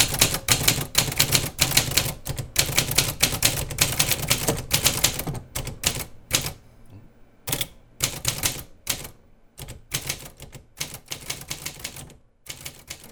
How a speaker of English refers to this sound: and this is a Manual Brother typewriter. Now this I use mainly to remind myself how good it is to use a proper machine, because the keys are incredibly hard to press and it's quite hard to write anything on it. But we can do some sounds with that.